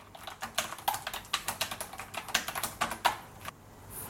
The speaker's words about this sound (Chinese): 我有一副键盘，我在打字。